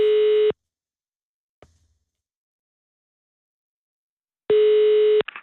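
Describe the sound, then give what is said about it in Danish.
Two long, steady telephone ringback tones separated by several seconds of silence, with a faint click in between as the line connects; the tones are loud, and the second cuts off abruptly. A call being placed to someone in Bagenkop. “så skal jeg have lov at ringe til Bagenkop.”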